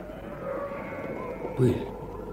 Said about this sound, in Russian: Пыль. Гляди-ка, пылище какая. К нам катится. Это овцы. Стадо овечьи, братцы.